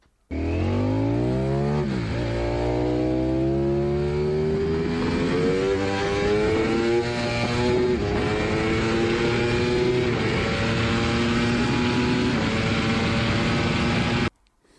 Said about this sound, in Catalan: M'estic posant difícil, però això d'aquí sembla que sigui o una Yamaha R1 o una Ducati V4. No. Molt bé, és una Ducati V4S.